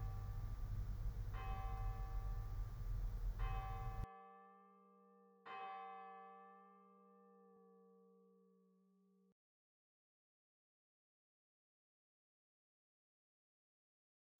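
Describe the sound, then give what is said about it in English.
A resonant bell rings out with a bright metallic strike, its long shimmering tones gradually fading into silence. The bell sounds clear, with no voices present. “Be aware of your need and return to this whenever you hear the bell, becoming more aware again of your desire.”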